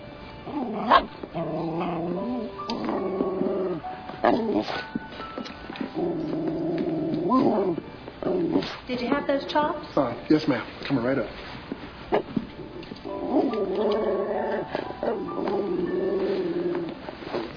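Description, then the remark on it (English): A dog whimpers in drawn-out, high whiny bursts, with short sharp yips scattered between them; a person speaks briefly at one point. “This your dog?”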